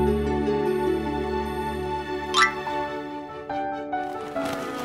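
A steady, droning mosquito buzz hums continuously at moderate volume as Mimi chases mosquitoes away with a book, with a brief squeaky sweep partway through and a rustling swell near the end. No one speaks.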